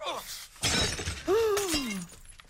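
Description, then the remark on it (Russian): A cup shatters on a hard floor with a bright, sharp crash of breaking china, followed by a falling, wavering vocal cry and a brief scatter of clatter, as a cake also falls and fruit is scattered. “И торт упал. И чашку разбила.”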